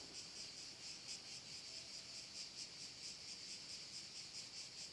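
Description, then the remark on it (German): Cicadas chirr continuously in a dense, shrill buzzing drone that pulses in a steady rhythm, filling the background at moderate volume with no voices present, on the Adriatic coast about 300 metres from the beach, between Ravenna and Venice, where they chirr from morning to night. “Vielleicht hört man es sogar, denn hier sind die Zikaden enorm im Einsatz. Die sägen von früh bis spät und mit hier meine ich an der Adria, ungefähr 300 Meter vom Strand entfernt, zwischen Ravenna und Venedig, so kann man es ganz grob eingrenzen”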